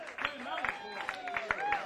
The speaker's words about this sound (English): Musicians, a round of applause one more time.